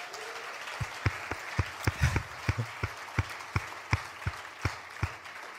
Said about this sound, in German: Vielen Dank auch euch, Lobpreiser. Und ich denke, wir geben Ihnen nochmal einen dicken Applaus, oder?